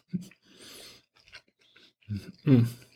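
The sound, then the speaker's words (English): Wet mouth noises of someone chewing a mouthful of pan-broiled lamb, with soft squelching bursts and smacking sounds in an uneven rhythm, no talking. “But I don't think you want to sit here for 2 minutes waiting for me to chew up the meat.”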